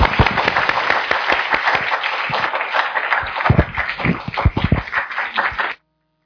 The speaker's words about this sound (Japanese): 아멘。할렐루야。우리하나님께감사의박수올려드리겠습니다。 神様に感謝の拍手を捧げましょう。